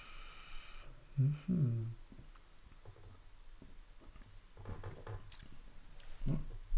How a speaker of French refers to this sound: Donc, première gorgée, on va goûter à ça, à tienne.